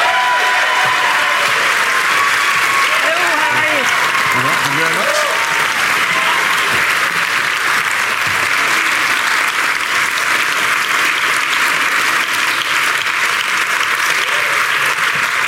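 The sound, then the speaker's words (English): A large audience breaks into loud, sustained applause welcoming Nicola Sturgeon, SNP leader and First Minister of Scotland; dense clapping holds steady for the full fifteen seconds, with a few scattered cheers and whoops rising in the first several seconds. “Please give a rousing welcome to Nicola Sturgeon.”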